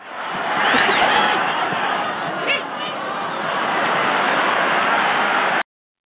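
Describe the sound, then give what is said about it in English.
A soundboard sound effect of rushing ocean waves: a steady, hissing wash of surf that swells in over the first second, holds loud and continuous for several seconds, then cuts off abruptly. “What was that, the ocean or something? Or is that supposed to be the sound of wind blowing over a tarp?”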